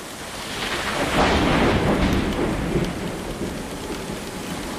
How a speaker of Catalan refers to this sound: La pluja colpejava les finestres, però dins el silenci era total.